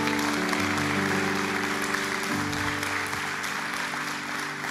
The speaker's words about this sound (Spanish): Le damos un aplauso también a la familia. Why don't you applaud your family for doing it?